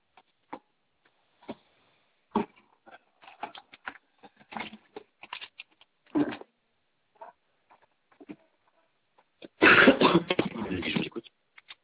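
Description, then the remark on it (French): Scattered light clicks and taps as a person grabs a pen and a sheet of paper to take notes, building into a few seconds of dense paper rustling near the end, with no talking. “Attendez, je prends un papier, un stylo.”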